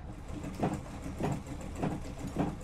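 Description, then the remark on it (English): A sewing machine worked by a grandmother, while a girl holds the thread, runs steadily, its mechanism thumping in an even, repeating rhythm of about four pulses over a soft, continuous mechanical hum. It sounds fairly quiet. “Jana is holding the thread while her grandmother works at a sewing machine.”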